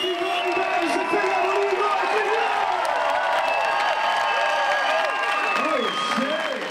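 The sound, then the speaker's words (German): An audience applauds and cheers loudly and continuously after the first part of a hip-hop performance, a dense wash of clapping with excited voices and whoops rising above it throughout. “Und das Publikum ist begeistert vom ersten Teil.”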